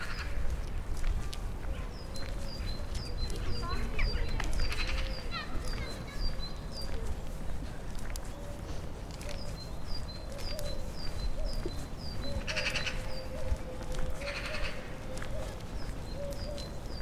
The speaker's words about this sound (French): ce qui est sympa dans Prague, c'est qu'il y a aussi quelques parcs qui sont vraiment très bien préservés de l'extérieur et où on est vraiment au calme. Et on peut entendre des paons, des petites tourterelles, des enfants, on peut entendre des pies.